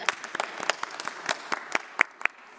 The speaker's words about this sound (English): Don't they look fab? Can we give them a round of applause, actually?